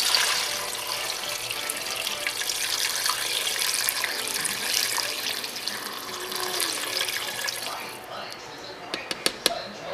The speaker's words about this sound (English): Now right here, this is my 2 cubes of chicken bouillon. I soaked it in some water because it was kind of hard. So I'm going to pour that in there. Then I'm going to add 4 cups of water.